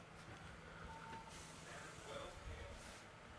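The bin men's garbage truck idles outside in a marina, its engine rumbling steadily while faint reversing beeps sound through the noise, muffled as heard through a door.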